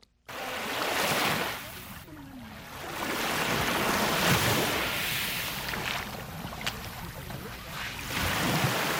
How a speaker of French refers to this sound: Des vagues matinales embrassent la plage du lac Tanganyika à Kajaga, dans la commune de Mutimbuzi, en province de Bujumbura rurale.